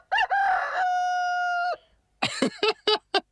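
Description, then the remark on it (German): A rooster crows one long, loud cock-a-doodle-doo with a sustained, strained final note, followed after a short pause by several quick, bright clucks or chirps in a rapid burst. “Ich finde es auch sehr schön. Ich liebe Hühner.”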